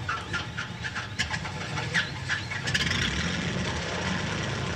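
The piston engines of a DC-3 aircraft cough and sputter to life at a remote airstrip in Panama at night, settling into a steady, throbbing rumble that swells louder toward the end as the plane takes off, with no voices.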